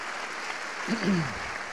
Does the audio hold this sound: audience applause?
yes